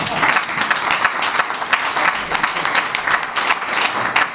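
A crowd claps steadily, a dense patter of many hands that holds at an even, fairly loud level without pause for several seconds.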